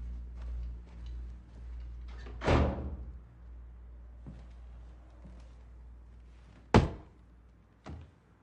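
A door bangs shut with a heavy, echoing thud as someone leaves, followed a few seconds later by a sharp knock and a softer click, with no voices, just quiet room tone between.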